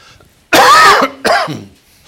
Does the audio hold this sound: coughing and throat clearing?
yes